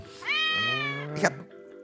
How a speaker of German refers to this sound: Das Kätzchen, der Tiger, ist heute unser Geräuschespiel und er war erst ganz selten.